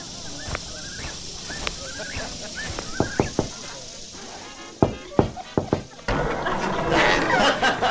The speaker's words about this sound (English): Oh, hey, you don't have to knock. You can just come in.